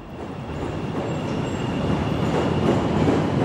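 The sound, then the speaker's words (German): An elevated subway train rumbles steadily through a station in central Chicago shortly after 8 a.m., a dense low roar of wheels and rail noise that swells slightly louder toward the end, with a faint high whine above it and no voices. “Kurz nach 8 Uhr morgens an einer U-Bahn-Station im Zentrum von Chicago.”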